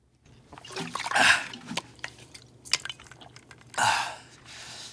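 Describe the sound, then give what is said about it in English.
Water sloshing in a canteen and dripping as a man drinks from it, with wet gulps and splashy bursts, a couple of louder swishes near the middle and end, with no talking. “He washes it down with some water from a canteen.”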